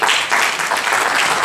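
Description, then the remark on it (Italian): An audience at a religious retreat applauds, a dense, steady wash of many hands clapping at once, loud and even throughout with no voices standing out. “Non ci vuole qua per far applauso.”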